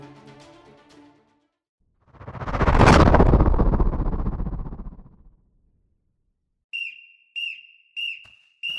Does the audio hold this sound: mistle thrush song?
no